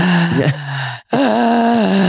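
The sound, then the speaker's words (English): A person imitates ocean waves with heavy, rasping breaths: a long exhale, a brief pause, then another drawn-out breathy rush. Loud, groaning, with no spoken words. “if you think that sounds like someone is breathing, that sounds like a death rattle.”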